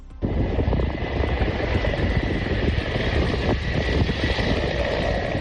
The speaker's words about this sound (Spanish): Es el sonido todavía de los bomberos en el helicóptero tratando de enfriar la nave ubicada en Fuencaliente.